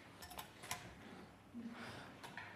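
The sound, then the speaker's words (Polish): A printer runs quietly, printing attendance lists and treatment cards, giving off a series of short mechanical clicks and whirring bursts as paper feeds through, with a brief low hum partway along. “Będziemy teraz obecnie drukować listy obecności, karty zabiegów, przepraszam.”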